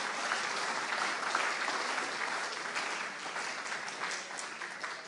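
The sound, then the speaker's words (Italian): An audience applauds steadily as praise to the Lord, a dense, continuous patter of many hands clapping at an even level for the full five seconds, with no voices standing out. “Date gloria, applaudite, lode al Signore.”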